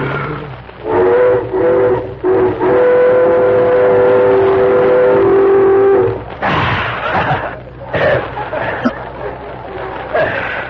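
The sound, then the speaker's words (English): A hand whistle blown through the thumbs, thumbs crooked and held together with the lips pressed against their second joints, gives a long, breathy wail like a Western Pacific train that wavers slightly in pitch for about five seconds, followed by a jumble of voices and rustling. “Press the lips firmly against the second joints of your thumb. Yeah, yeah. And then in this manner, you blow, like this.”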